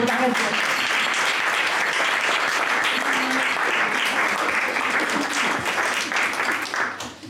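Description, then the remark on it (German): Sustained audience applause, a dense, steady wash of many hands clapping at full volume before beginning to thin out and fade near the end. “Und ich denke, dass es auch mal ein Beifall wird.”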